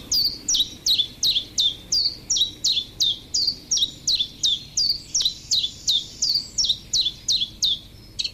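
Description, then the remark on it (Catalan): A common chiffchaff sings a steady series of about twenty sharp, high notes in an even, bouncing rhythm. The song is clear, with no voices and only a faint low background hum. “Mosquiter comú. Filoscopus colivita. Ocell hivernal que trobem d'octubre a abril als rius i zones humides, platges, roques, camps de conreu i zones boscoses.”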